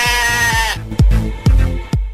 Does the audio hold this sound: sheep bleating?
yes